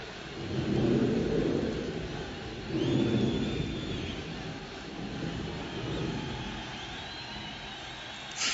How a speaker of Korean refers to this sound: 자, 함성 들리시죠?